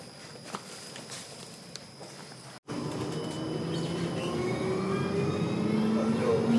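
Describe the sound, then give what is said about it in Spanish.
A tram rolls along its rails with a steady, growing rumble and thin metallic squealing tones. It is preceded by quieter ambience with faint footstep-like taps and a brief cut. “Que los trenes no suelen anunciar, pero el tranvía sí que anuncia las paradas.”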